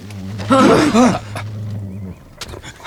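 A dog growls low and steadily, rising into a louder, snarling burst of about half a second before sinking back into a rumbling undertone, with a few soft thumps near the end.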